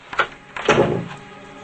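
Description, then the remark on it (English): A door opens with a short creak and thump, then a brief rustling, clattering rush that fades away, moderately loud with no voices. “Carrie opens a door and Brian follows her inside.”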